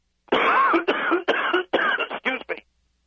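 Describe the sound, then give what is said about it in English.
A fit of sneezing: about six harsh, breathy bursts in quick succession, loud at first and getting shorter toward the end, with no talking. “Gesundheit.”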